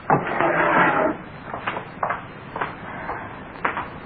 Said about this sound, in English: Here, Lil, get me that hammer out of the drawer.